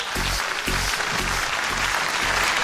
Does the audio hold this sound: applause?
yes